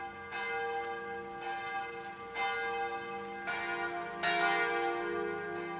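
The bells of six Bavarian churches, in Munich, Dietfurt, Oberstdorf, Aschaffenburg, Passau and Nuremberg, ring in Christmas in a steady, overlapping peal, each strike blooming into a long shimmering hum, with several louder strokes rising over the continuous ringing. No voices are heard.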